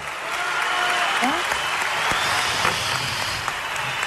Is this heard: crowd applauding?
yes